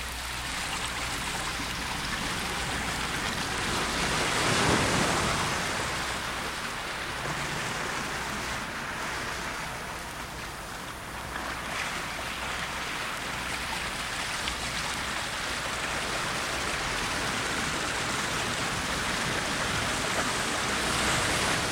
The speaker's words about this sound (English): We have a fine recording here of a river I think you're going to enjoy. There's the music.